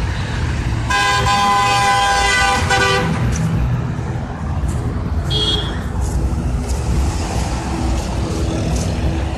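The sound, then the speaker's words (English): A loud, sustained car horn blares for about two seconds over a steady rumble of traffic, then a shorter, higher honk sounds a few seconds later. “Honk for justice.”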